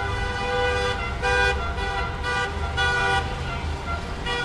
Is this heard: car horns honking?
yes